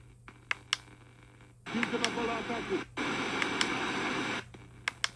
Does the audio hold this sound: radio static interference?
yes